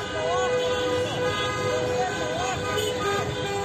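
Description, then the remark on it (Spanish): Many car horns honk at once in a continuous, overlapping din, with wavering tones rising and falling over steady traffic noise and a murmur of crowd voices underneath, at a car protest called by Vox against the government's handling, at midday in many provincial capitals of Spain. “Son las manifestaciones en coche convocadas por Vox para protestar por la gestión del gobierno.”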